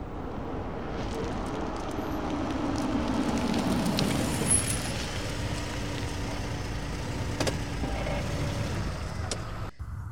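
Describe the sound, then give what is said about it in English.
A car's engine rumbles steadily, its tone dropping as the vehicle slows and pulls over to a stop by the Fandom Coffee Bar in Kyiv, with low road noise continuing throughout and no voices. “Pull over here.”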